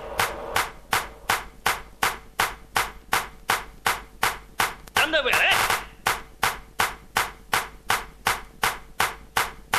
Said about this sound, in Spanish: Es aplauso para …, ….